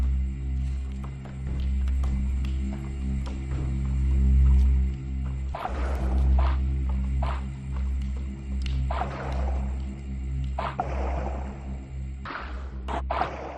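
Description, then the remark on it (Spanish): Intriguing, moody soundtrack music for the dance show Berro at Danza Málaga in the Teatro Cervantes: deep sustained drones hum underneath while scattered noisy swells and rumbling hits rise and fade. No one speaks. “Intrigante banda sonora la que estamos escuchando.”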